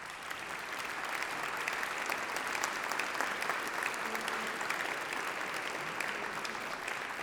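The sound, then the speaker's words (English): A steady round of applause from a crowd at a music department performance for the two commissioners of the piece, dense clapping sustained at an even level for several seconds with no talking over it. “Could we give a little round of applause for these two mothers?”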